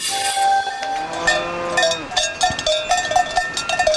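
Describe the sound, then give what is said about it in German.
Several cowbells worn on cows' necks clank and ring in an irregular, overlapping jangle, their hollow metallic tones sustaining at first and then breaking into quicker, uneven strikes, with no voices. “Vielen Menschen jedenfalls gefällt das Läuten der Glocken, die die Kühe am Hals tragen.”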